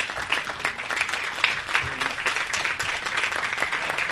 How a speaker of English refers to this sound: And I'd like for us to just give him a round of applause because he keeps it alive in our community.